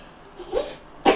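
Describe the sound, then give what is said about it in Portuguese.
A child coughs twice, two short bursts about half a second apart, the second louder and harsher, with no talking around them. “Estás com tosse.”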